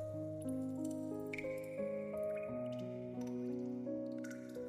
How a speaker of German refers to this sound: Es ist vollkommen still. Nur das sanfte Platschen einzelner Tropfen ist zu hören.